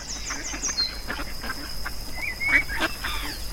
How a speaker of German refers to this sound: Ich blicke auf den See. Da schwimmen drei flotte Enten vorbei. Sie schnattern.